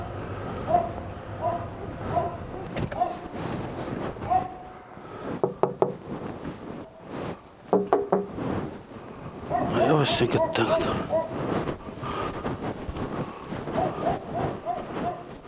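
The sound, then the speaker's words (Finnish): A dog kept in a cage barks repeatedly, sharp yips mixed with knocking and rattling sounds, while people talk throughout; at a house at the end of a street in Pudasjärvi, Finland. “Koira on, mutta se on onneksi häkissä.”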